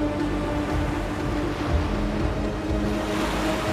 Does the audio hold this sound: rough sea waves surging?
yes